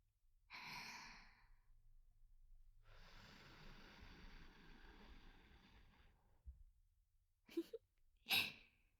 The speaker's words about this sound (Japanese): 吐息という形で風を届けるのも手段の一つです。